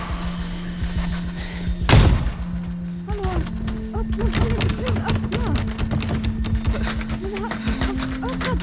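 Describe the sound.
The door of a banquet hall slams hard with a heavy thud, followed by rapid, repeated banging and rattling as people locked inside pound and pull at it, unable to get out. Agitated voices shout over a steady low hum.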